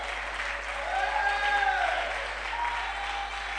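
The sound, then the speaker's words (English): A church audience claps for the Lord during a sermon in a dense, sustained wash of applause, with faint cheering or voices rising over it in the middle before the clapping continues evenly. “Oh, somebody clap for the Lord.”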